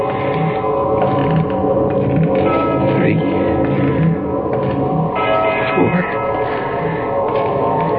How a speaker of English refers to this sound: And then way off in the distance, I heard the deep-throated bongs of a church bell striking the hour. I stopped running. I waited. I counted.